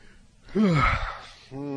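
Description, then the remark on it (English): A person lets out a long, breathy yawn lasting nearly a second, fairly loud, with a voice beginning to speak just after it ends. “I didn't mean to yawn like that.”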